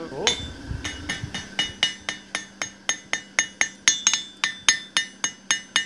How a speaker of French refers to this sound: J'affine la feuille sur le pourtour. Et là, vous êtes plutôt tendre alors avec le marteau par rapport à ce que vous disiez tout à l'heure. Ben, il faut, parce que sinon, on massacre tout.